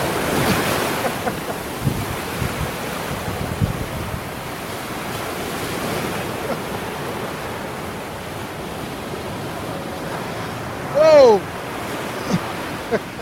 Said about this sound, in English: Oh, here comes a wave. Here comes a wave.